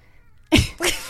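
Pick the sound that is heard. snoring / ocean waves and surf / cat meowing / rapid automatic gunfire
cat meowing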